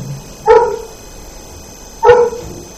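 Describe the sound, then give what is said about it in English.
A dog barks twice, with a pause of about one and a half seconds between the sharp, loud woofs, against a quiet background with no talking. “If he knew that this was so sublime and pure, he wouldn't be barking.”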